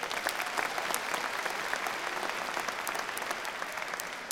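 A crowd claps in a steady, dense round of applause for the pianist inside a church, a bright patter of many hands that holds at an even level throughout, with no voices over it.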